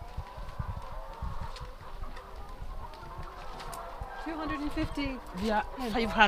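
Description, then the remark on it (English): A large flock of about 250 chickens, part of a farm's 500, clucks and squawks continuously in a dense, overlapping chorus, growing busier and louder toward the end, with people talking over the noise. “And how many chickens do you have now? We have 500. These are 250.”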